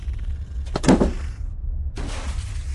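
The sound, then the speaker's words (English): A low, steady rumble carries a short burst of dull mechanical thumping and thin, strained metallic creaking from a laundry vacuum tube being repaired, then a brief lull and a soft, rushing hiss. No one speaks. “No, this sound is coming from the laundry vacuum tube? It's faint, the sound. A thumping here, the straining of thin metal there.”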